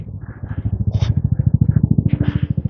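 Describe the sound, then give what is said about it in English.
A helicopter heading toward the hospital drones loudly with a steady, rapid low thumping from its rotor, the deep pulses continuing evenly throughout, with a couple of brief hissy bursts above. “Oh, helicopter.”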